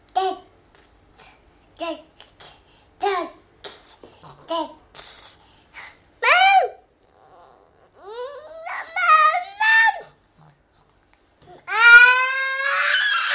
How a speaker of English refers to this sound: Oh my goodness. That is some shouting, mister.